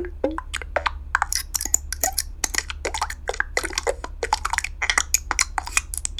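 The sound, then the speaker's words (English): A rapid series of short, crisp synthetic clicks and blips, designed as button sounds for a Yahoo widget, bright and glassy, some with brief tonal chirps, playing one after another in an irregular rhythm over a low steady hum. “So typically what I do is I create a bunch of button sounds. These are would-be buttons for a Yahoo widget.”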